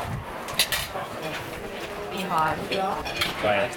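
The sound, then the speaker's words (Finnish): A bustling Mexican-style restaurant, Zapata, full of people eating and overlapping chatter, with sharp clinks of dishes and cutlery ringing out now and then over the steady crowd noise. “Täällä on tosi paljon porukkaa syömässä.”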